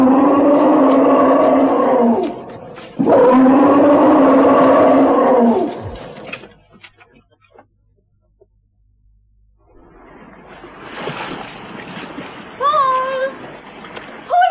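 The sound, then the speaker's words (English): A charging tusker elephant gives two long, loud, bellowing roars back to back, then a lull before rough rumbling noise and a few shrill, rising trumpet-like blasts near the end. “It's a Tusker elephant. And he's seen us. He's going to charge.”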